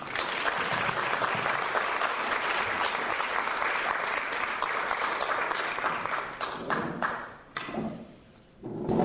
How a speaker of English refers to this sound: I think Rolf definitely needs a round of applause.